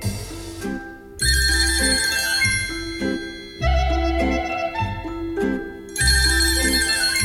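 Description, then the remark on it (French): A telephone rings loudly in three long, bright bursts spaced a couple of seconds apart, with a low background hum continuing between rings. “Sept coups de téléphone pour une seule personne en une heure, ça fait beaucoup trop.”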